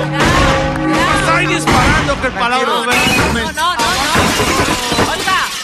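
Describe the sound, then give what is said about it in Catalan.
Glass shatters amid a loud, chaotic burst of sharp bangs like gunshots, fired to celebrate an appointment, with the glass of the Prismas office breaking and several people shouting and yelling over the noise throughout. “¡Unos tiros para celebrar el nombramiento!”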